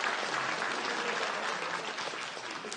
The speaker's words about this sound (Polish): Brawa, absolutnie.